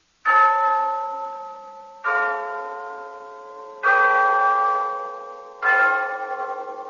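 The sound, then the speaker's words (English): The clock in Glen Falls Town Hall chimes four times, evenly spaced resonant bell strokes, each ringing loudly with rich overtones and slowly fading before the next. No voices. “Yes, there's the clock in Glen Falls Town Hall telling us it's time for Renzo's story of Big Sister.”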